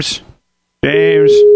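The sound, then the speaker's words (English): A steady, mid-pitched telephone tone from redialing a call sounds for under a second, partly overlapping a voice, after a short burst of hissy speech and a brief silence. “I'll hang up and do it again, because, damn. And there we go. Beep, beep, beep, beep, beep.”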